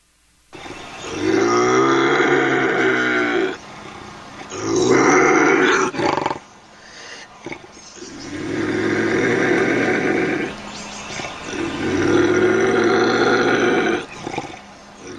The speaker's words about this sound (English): This is a live video of a bobcat in a cage, and it's terrifying. We hear it.